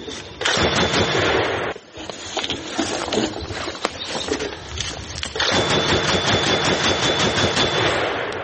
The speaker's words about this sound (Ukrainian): Постріл.